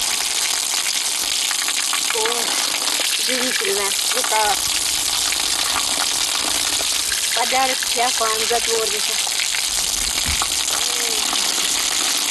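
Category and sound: nature, water pouring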